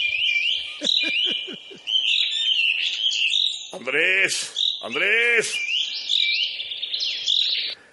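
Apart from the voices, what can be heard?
small birds chirping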